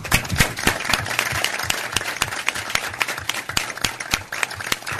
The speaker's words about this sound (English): Thank you, Judge Brandlin, and a round of applause.